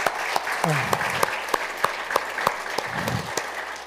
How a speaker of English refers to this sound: So let's give an applause for that.